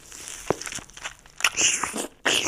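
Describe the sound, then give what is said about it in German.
A wet bite into a juicy strawberry, followed by loud smacking and slurping chewing sounds, with a short pause before a final burst of slurping. No one speaks. “Ich mache auch nochmal einen, ich schmatze hier auch nochmal einen rein.”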